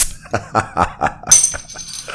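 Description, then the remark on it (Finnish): A can of a drink called Vestosit cracks open with a sharp pop, followed by a steady, bright fizzing hiss. A few short voiced bursts come just before the opening. “Ja nasahdus kuuluu siitä, että korkkaamme auki Vestosit.”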